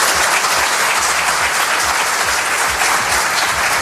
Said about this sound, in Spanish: Así que los jueces y fiscales, que no son tontos, cuando terminó a continuación la presidenta del Tribunal Supremo, que opinó en contrario del fiscal, se arrancaron en una fuerte ovación cerrada.